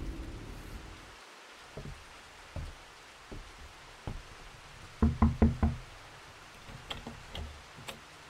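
rain falling outside

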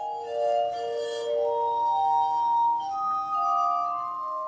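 glass harmonica being played

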